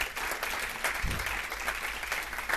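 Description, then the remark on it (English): An audience claps hands with the Lord in a dense, steady burst of applause, many hands producing a loud, continuous wash of sharp claps with no voices standing out. “Come on, let's clap our hands with the Lord for just a second.”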